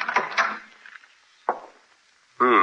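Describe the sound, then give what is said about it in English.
A door handle rattles and the latch clicks as a police officer opens the unlocked door to a man's room, followed by a single sharp click; a voice starts speaking right at the end. “There's the door of my room, copper. Open it.”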